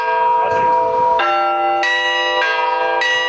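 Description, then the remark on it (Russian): Church bells are rung skillfully for young Cossack children, loud, with a new strike landing roughly every half second or so, each one layering bright, lingering overtones over the previous ring. No voices are heard. “Юные казачата услышали мастерски исполненный звон.”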